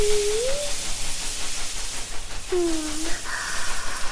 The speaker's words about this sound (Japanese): 最後にシャワーで洗い流します。よーくよーく泡を洗い流しますね。ゴシゴシゴシゴシ。